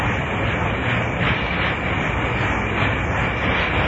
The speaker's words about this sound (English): That's known as a long haul sound. That is not the sound of a train pulling out of Grand Central. This is a train that is highballing it on a long haul.